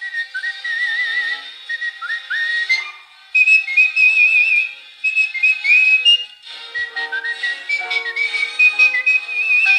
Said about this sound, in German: wie dieses Gepfeife und Gesinge bei … sich anhörte